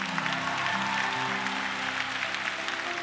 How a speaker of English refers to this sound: Clap like you got some faith.